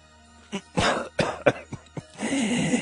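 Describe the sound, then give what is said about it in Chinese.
An innkeeper coughs several times before regaining his speech: a series of sharp coughs in quick succession, some short and choppy, ending in a longer rasping, throaty cough with a strained, breathy quality. “客栈老板咳嗽了几声，终于恢复了言语能力。”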